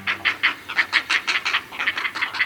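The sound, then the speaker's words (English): Great blue heron nestlings at a great blue heron colony calling in a rapid, rhythmic run of harsh, raspy clucks, about five or six per second, fairly steady in loudness with a brief pause midway. No one speaks. “Hear those chicks calling? They're nestlings at a great blue heron colony, and about this time of year, they begin to test the limits of their nests.”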